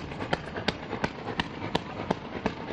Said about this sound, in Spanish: Son los disparos, la reacción del ejército israelí después de un viernes de la ira